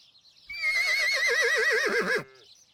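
A horse on a farm lets out one loud whinny lasting under two seconds, its pitch quavering rapidly before dropping off into a short snorting tail, with faint chirping in the background.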